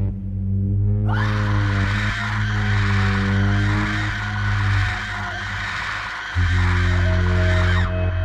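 A long, piercing, high-pitched shrill scream rises suddenly and holds for several seconds, harsh and loud, over a steady low droning hum that continues underneath before the scream cuts off.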